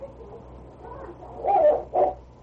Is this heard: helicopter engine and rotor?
no